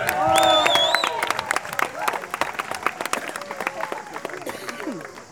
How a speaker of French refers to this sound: Oh là là, ça rentre en courant. Et on peut les applaudir.